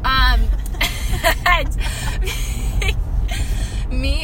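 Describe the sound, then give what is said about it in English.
A big truck roars past aggressively, its deep engine rumble loud and steady throughout, with a few brief vocal exclamations breaking over the noise. “That truck, that is so aggressive, sir.”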